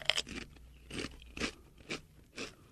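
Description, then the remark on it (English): A crisp Pringles potato chip snaps in a sharp bite as a person eats it into the microphone, followed by about five steady, rhythmic chewing crunches, loud with no talking. “I'm going to give it a shot here. We'll get the crunch in the mic.”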